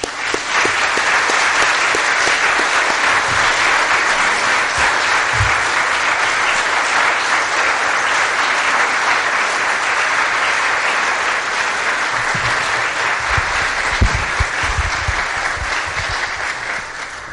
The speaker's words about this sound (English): you all put in an invaluable amount of love and concern, and I just I want to take a second and applaud the mentors. Thank you.